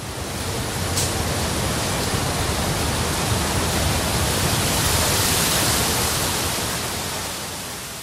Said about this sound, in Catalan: Sabeu què és un tifó? Aquells vents tan forts que es produeixen en el mar.